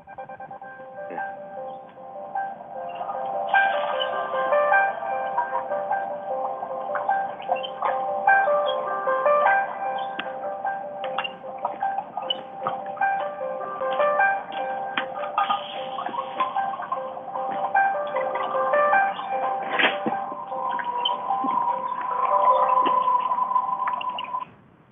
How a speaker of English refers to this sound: That was my phone reminding me that we're doing a call right now.